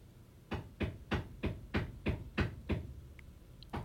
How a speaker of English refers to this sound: But they need to also be respectful of the neighbors in the building, and pounding nails into the wall next to the radio studio is not the way to do that. And it sounds like they're just hammering into the same spot over and over again.